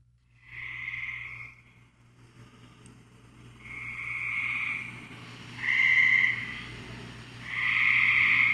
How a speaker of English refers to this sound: So what do you think? It's not a bird. No? Nope. And it's a sound that often confuses birders, and myself included, but that's actually a frog. Really? A gray tree frog.